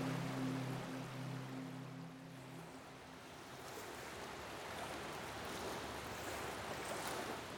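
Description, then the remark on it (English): A boat moves through ocean waves, with a low engine hum for the first few seconds before the steady rush and splash of water takes over. The sound is continuous and fairly loud, with no talking. “You want to steer the boat for a while?”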